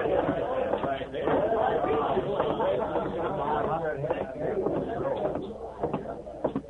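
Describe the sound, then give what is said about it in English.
A steady murmur of many overlapping voices fills the whole stretch in the evening at the cafe at Bent's Landing, a jumbled crowd conversation with no single speaker standing out. “The two men walked to the back and stood in the shadows, watching the crowd and listening to the jumbled conversations.”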